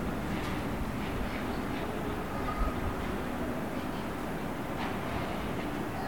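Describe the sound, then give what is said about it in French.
A steady, broad roar of an airplane passing overhead fills the whole recording, a continuous low rumble with a faint hiss on top that holds an even loudness throughout, with no voices. “J'entends les oiseaux. J'entends un avion.”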